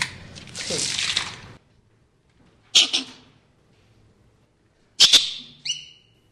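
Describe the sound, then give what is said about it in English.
Sharp, loud barking alarm calls from captive male squirrels ring out twice, each a sudden harsh yelp with a short trailing cry, after an initial rustling noise. “Anyway, I'm going to open the door, and they're probably going to start barking at us, but these are all males.”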